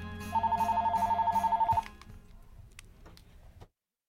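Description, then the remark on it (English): A telephone rings with a fast, trilling electronic burst of rapid pulses lasting about a second and a half, followed by a soft rustle of background noise before it goes quiet; an incoming call from a physician in Colorado. “I think she's calling in right now.”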